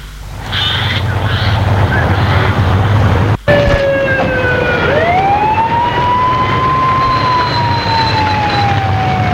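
vehicle, police car siren

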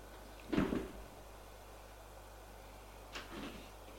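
household object, door being opened

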